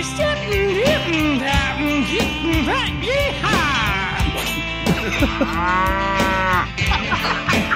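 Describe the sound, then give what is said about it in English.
Four cows moo repeatedly and overlap one another, a dense chorus of drawn-out lowing calls that fills the whole stretch at fairly loud volume. “Children, four cows and a tractor.”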